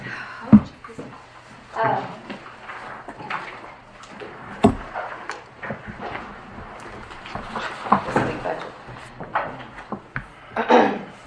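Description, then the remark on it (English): A chair is dragged and shifted around during a meeting, with a series of scraping bumps and knocks over several seconds and a faint murmur of voices. “I hope you move that chair.”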